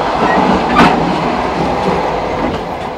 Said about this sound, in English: I love it when the train hits a curve just when you're going through that, yep, with the compartment between the carriages.